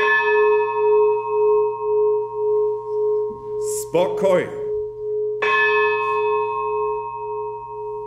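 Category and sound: signal or alarm, church bell ringing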